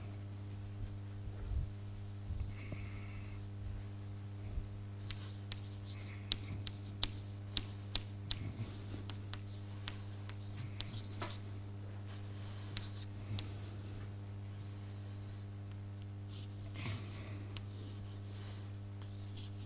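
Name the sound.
writing on a board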